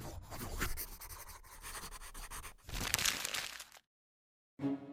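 A pen scratches steadily across paper in busy, uneven strokes as invitations are written, growing louder in a burst near the end, then stopping briefly before a short final scribble.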